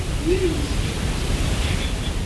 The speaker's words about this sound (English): All right, so that's our outdoor microphone picking up the noise from the fans and stuff on the furnace.